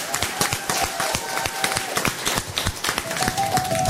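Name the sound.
audience applause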